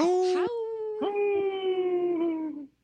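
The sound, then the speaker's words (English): A human voice imitates a wolf howl for Howling for Wolves: long, steady, drawn-out notes, loud, with a brief break and a fresh start before trailing off. “You were thinking it hard that you were going to howl.”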